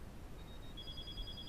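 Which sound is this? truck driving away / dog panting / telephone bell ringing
telephone bell ringing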